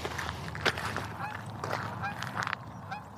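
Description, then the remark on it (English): A flock of geese flying in a V formation low to the ground honks in a steady, overlapping chorus of short nasal calls, moderately loud, with no one talking. “Nice formation of geese there. In the V, the classic V.”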